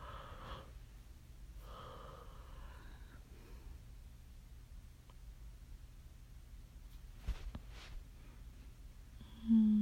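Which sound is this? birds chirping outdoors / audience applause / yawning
yawning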